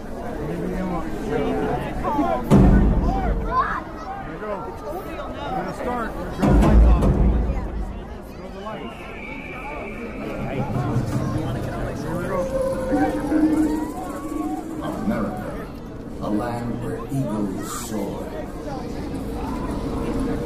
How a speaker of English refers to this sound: Alrighty, well, next up, I'm going to play the Disneyland 4th of July fireworks show, 2012. So here we go with that.